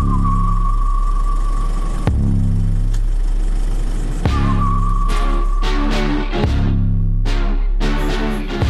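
A car engine is started and runs loudly and steadily, a deep idling rumble with a few revving swells and no voices.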